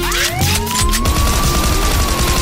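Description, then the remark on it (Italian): A police siren wails upward and holds its high tone, while a burst of sharp gunshots cracks out loudly in the first second over a heavy rumbling background. “La sirena e il botto e la sparatoria.”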